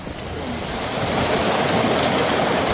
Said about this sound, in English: It's a shame, really, because there isn't actually much wind, is there? No, not really, no. It's that sort of straight down rain, really. Yes, it is, yes.